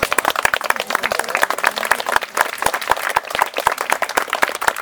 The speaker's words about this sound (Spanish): Gracias, compañeros, y yo quiero pedirle a mis compañeros que brindemos un fuerte aplauso a los compañeros.